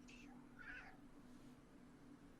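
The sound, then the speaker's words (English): Two cat meows, one short and one longer and more drawn out, sound over a steady low hum and background noise. “Do you hear that? Those like cats or something.”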